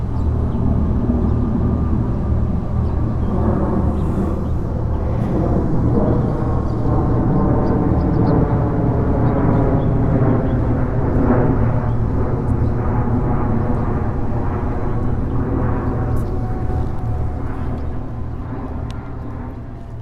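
A steady, loud low-frequency rumble of an airplane passing overhead, droning continuously for the whole stretch before easing slightly at the end, with no talking.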